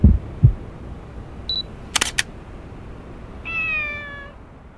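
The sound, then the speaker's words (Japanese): Two low heartbeat-like thumps, a brief focus beep, then two crisp Canon EOS digital SLR shutter clicks in quick succession, followed by a cat's drawn-out meow. No one speaks. “偶然の一瞬も逃さない。デジタル一眼レフキャノン EOS、キャノンマーケティングジャパン。”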